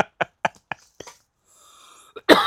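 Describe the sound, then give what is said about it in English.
A quick run of short, dry coughs, four or five in a row, fairly loud, followed by a faint steady tone and a sharp, loud burst at the end. “Still got a little bit of that cough.”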